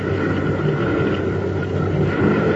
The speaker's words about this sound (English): Sounds like those boats are getting a little closer.